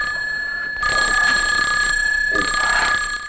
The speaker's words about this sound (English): He answers the phone in the hall.